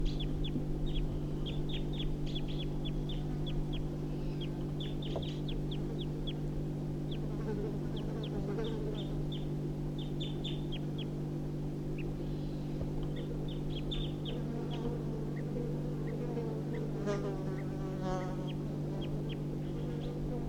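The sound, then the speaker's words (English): Wild birds give a run of short, sharp alarm calls, repeated in irregular bursts over a steady low droning hum, with no one speaking; recorded at about 8:54. “Getting alarm calls again.”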